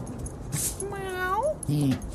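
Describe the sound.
A single drawn-out meow, voiced by a person mimicking a cat, rises in pitch and then breaks off. A short low vocal sound follows, with faint background noise around it.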